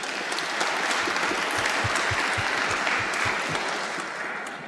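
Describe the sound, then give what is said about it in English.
An audience at a live music event claps steadily for several seconds, a dense wash of many hands applauding at once, sustained and fairly loud before easing slightly at the end. “Give yourselves a warm round of applause.”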